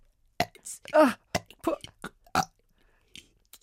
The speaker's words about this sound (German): Der Pinguin rülpst.